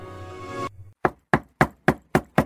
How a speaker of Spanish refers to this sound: Y al llegar a la casa de la abuelita, llamó a la puerta.